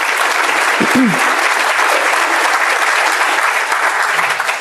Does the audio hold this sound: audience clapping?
yes